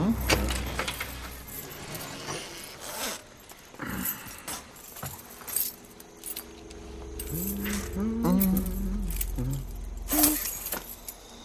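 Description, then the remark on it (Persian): Keys jangle and clink repeatedly in bright, uneven bursts over a low engine rumble, with a voice briefly speaking near the end. “کلیدش اینجا نیست. بیرم از دفتر بیارمش.”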